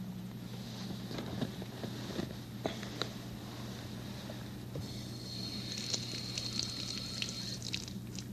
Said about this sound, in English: See the water going down? Water goes down the drain.